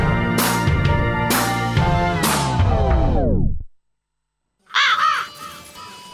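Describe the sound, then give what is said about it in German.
A raven caws loudly and raspily several times within the Rabe Info station jingle, the sound ringing out and fading. After a brief silence, another short burst of harsh caws follows. “Rabe Info Talk.”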